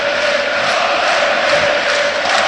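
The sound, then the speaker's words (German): A large stadium crowd at a football match between Magdeburg and Arminia roars in excitement as an attack builds, a dense, sustained wall of cheering and shouting that holds steady and loud throughout, with no individual voices standing out. “Das Publikum hier macht jetzt eine richtige Reaktion. Weil die wittern, da geht was.”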